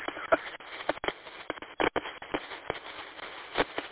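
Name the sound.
sniffling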